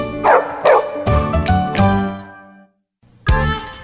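A big, energetic dog barks loudly in a quick series of deep woofs, pauses briefly, then breaks into another burst of barking, in a radio advert for Animax Dog food sold at Cotriel stores.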